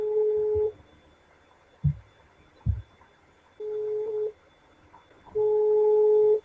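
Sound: outgoing phone call ringing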